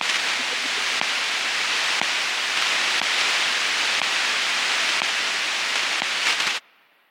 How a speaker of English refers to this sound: To everyone and everything other than the computers receiving the instructions, data sounds like nothing. Maybe some static, just blips between computers.